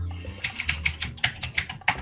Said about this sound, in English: It's all right, still everyone's going to get to hear how loud my mechanical keyboard is here.